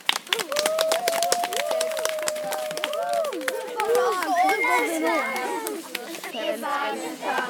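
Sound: children applauding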